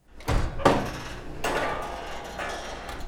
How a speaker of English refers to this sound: Opening the oven.